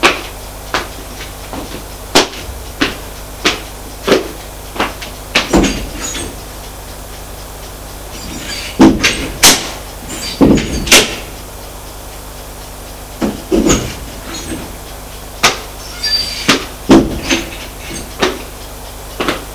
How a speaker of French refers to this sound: On sonna à la porte d'entrée. Personne n'y fit attention, sauf Martin qui alla ouvrir.